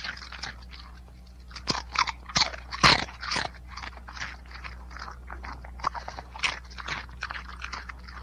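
A dog crunches light, crisp potato chips, with a rapid, irregular string of crisp bites and chewing crackles over a low steady hum, one louder crunch standing out near the middle.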